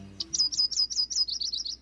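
A quick series of about ten high, bright bird chirps in a steady rhythm, each a short sharp tweet, rising then settling slightly lower toward the end, heard alone without voices.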